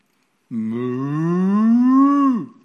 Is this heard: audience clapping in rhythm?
no